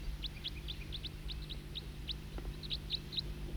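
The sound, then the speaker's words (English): A bird known as the tooper gives loud, repeated tooping calls in short, high, evenly spaced notes, about a dozen over a few seconds, steady and fairly clear above a low, constant rumble of background noise. “Is it recording the tooping again? Same bird.”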